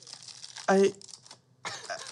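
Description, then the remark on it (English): Papery crinkling comes in two bursts as the wrapper or plastic casing of a party popper is handled, separated by a short vocal sound and a brief quiet gap. “Well, it's a popper. It's poppers. We got you poppers.”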